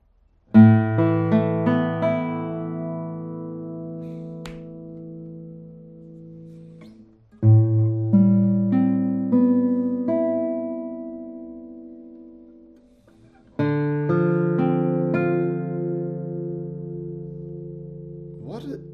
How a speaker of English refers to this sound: And the guitar is, as I said, from 1986, and it is still in a very good condition. But I really cannot wait to show you the sound of this guitar. I have played a few tones on this one and I was blown away.